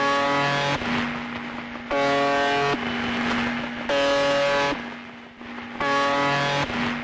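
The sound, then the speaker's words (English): Radio transmission from a haunted Russian station: a harsh, steady buzzing tone pulses on and off about four times, each burst roughly a second long, separated by a rough hiss of static. No voices. “I'm going to play you a sound now. I want you to listen to this. And this is a haunted radio station.”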